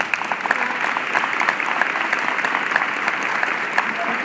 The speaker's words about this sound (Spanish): Un aplauso a usted, doctor.